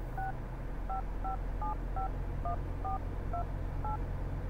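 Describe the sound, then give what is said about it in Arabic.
A quick sequence of about nine keypad beeps as a phone number is dialed to call someone's mobile phone, evenly spaced dual-tone presses over a low steady hum, with no one speaking. “طيب بجرب اتصل عليه أنا الآن، يمكن كان مشغول مع أبوك.”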